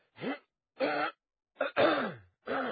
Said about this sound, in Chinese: 门口忽然有人在轻轻的咳嗽，方恨狼闻声一惊，猝然转身，立时倒吸了一口冷气。